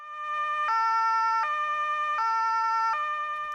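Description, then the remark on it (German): A loud ambulance siren wails in a steady two-tone pattern, alternating between a higher and lower pitch twice with no voices over it. “Also ich rufe jetzt den Krankenwagen an, wenn du es nicht tust.”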